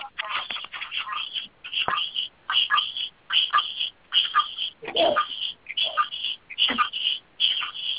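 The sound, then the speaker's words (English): A phone buzzes in a rapid series of short, raspy vibrating pulses, repeating in uneven bursts throughout with brief gaps between them. “It sounds like it's a phone vibrating or something.”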